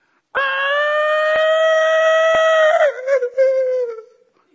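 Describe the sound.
A voice imitates a crow's call: one loud, nasal, sustained cry held for a couple of seconds, breaking into a wobbling, quavering tail that fades out. No words are spoken.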